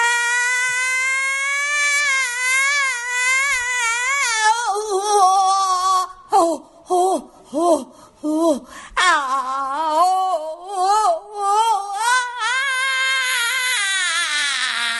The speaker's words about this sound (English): And … has her own way of dealing with Trump's election through scream therapy.